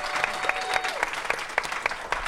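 An audience at a comedy show applauds a guest on stage steadily, a dense wash of clapping with sharper individual claps popping out at a quick, uneven rhythm, moderately loud throughout.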